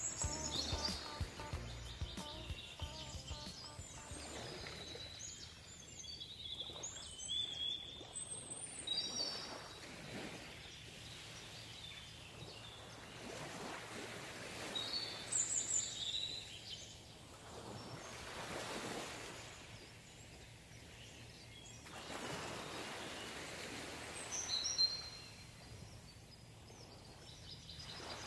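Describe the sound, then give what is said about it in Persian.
Waves roll onto a Persian Gulf shore in steady surges every few seconds, with wind noise beneath and scattered high bird calls chirping over the surf. No one speaks. “چشای خودمون رو ببندیم، سفر کنیم به خلیج فارس، صدای امواج، صدای پرنده ها.”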